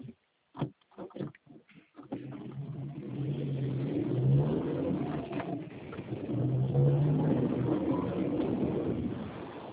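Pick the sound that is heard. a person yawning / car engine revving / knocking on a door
car engine revving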